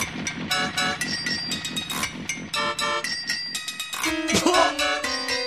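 An upbeat pop song plays from a coin-operated jukebox on the wall, put on by mistake, with a steady, bouncy beat and bright instruments, then a loud horn-like toot blares near the end. No one speaks.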